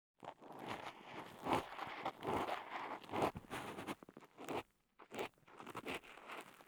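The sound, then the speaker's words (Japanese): Crackling scrapes of earwax that has come out to the entrance of the ear canal, a dense run of crunchy, brittle rasps in uneven bursts with a couple of brief pauses, loud and intimate with no voices. “このポリポリとした音。”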